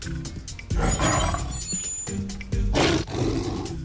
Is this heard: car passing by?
no